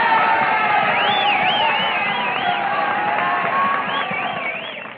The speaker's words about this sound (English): Those cheers aren't for me. Those cheers are for the Notre Dame spirit.